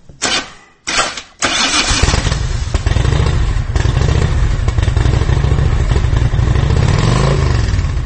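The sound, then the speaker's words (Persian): A motorcycle engine cranks in a few short bursts, then catches and settles into a steady, loud idle with a throaty low rumble and slight revving near the end. No one speaks. “سویچ را میچرخانی، موتور را روشن میکنی و مهم نیست که حرفه‌ای هستی یا آماتور، اما با یک غفلت حرکت میکنی به سوی نیستی.”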